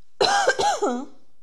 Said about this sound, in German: Ich muss einmal husten.